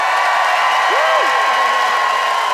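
An audience in Ottawa applauds steadily to pick a debate winner by applause, a dense, even wash of clapping throughout, with a single rising-and-falling whoop or whistle cutting through briefly near the start.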